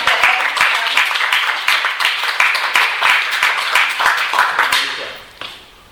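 A crowd applauds steadily, many hands clapping in a dense, even wash that holds for several seconds before fading out near the end.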